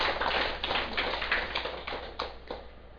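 A crowd claps steadily for about three seconds, a dense crackle of many hands with a few sharper claps near the end as it starts to taper off. No one speaks. The audience applauds at the opening of a dharma talk titled 'Vườn Tâm Hoa Tuệ' on 5 September 2005.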